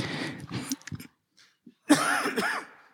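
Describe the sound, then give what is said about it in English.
A person coughs and clears their throat, a couple of rough bursts separated by a brief quiet pause, with no speech. “And yes, I'm still fighting this cough.”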